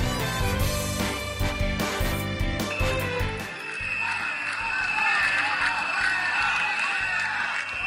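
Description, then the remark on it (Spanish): A crowd shouts and claps as a politician is received at the government delegation in the city of Valencia, a dense, continuous wash of voices following a few seconds of loud, punchy sounds of scattered clapping. “Entre gritos y algunos aplausos también ha sido recibido Pedro Sánchez en la delegación del gobierno”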